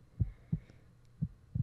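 heartbeat

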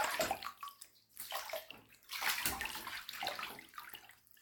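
bath water splashing

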